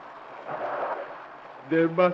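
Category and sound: nature, rain falling with thunder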